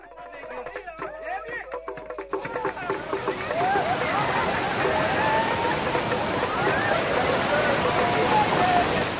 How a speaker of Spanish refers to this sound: Impresionantes cataratas, a las que los nativos Makololo las llamaban humo que truena, y Livingstone les dio el nombre de Cataratas Victoria, en honor a la reina Victoria del Reino Unido.